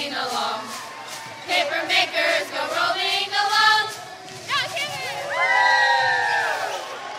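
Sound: crowd cheering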